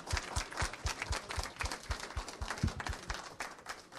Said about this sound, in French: Je voudrais qu'on applaudisse très fort nos intervenants. Merci à eux.